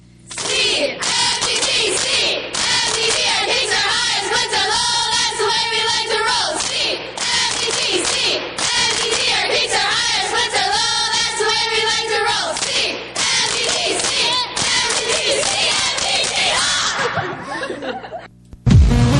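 The Canby Minnesota Sensations dance team chants a loud, rhythmic group cheer in unison, with sharp claps punctuating the beat, continuing for nearly twenty seconds before cutting off abruptly.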